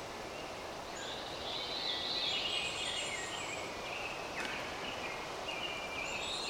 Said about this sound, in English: Well, it's the veery straight out ahead of us, the pine warbler to the right. The hermit thrush for now is a little quiet. There was a wood thrush off to the left. The chickadee's not really launched into his dawn chorus of singing.